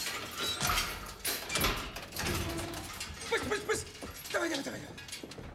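A bearded man unlocks and pulls open a metal-barred door: a series of sharp clanks and rattles, followed by a grinding, slightly squealing metallic scrape as it swings, with more clatter at the end.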